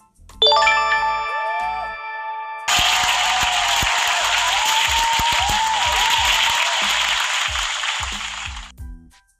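A bright ringing chime opens, then a loud crowd bursts into wild applause and cheering with a few whoops, sustained for about six seconds before cutting off abruptly.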